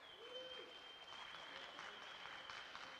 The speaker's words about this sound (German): Können wir mal einen großen Applaus für die drei Podcaster haben? Ganz großen Applaus, bitte.